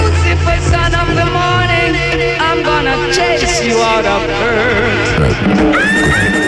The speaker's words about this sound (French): on va donc juste après ce jingle écouter ton interview sur Reverb